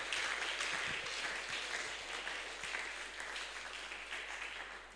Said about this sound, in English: Are we not clapping the people here?